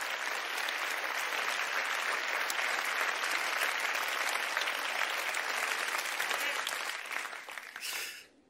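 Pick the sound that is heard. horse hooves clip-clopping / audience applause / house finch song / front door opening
audience applause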